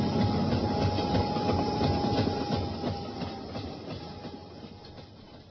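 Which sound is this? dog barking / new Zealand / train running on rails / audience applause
train running on rails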